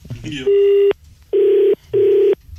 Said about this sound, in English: It's my phone. I'll answer it if I want to.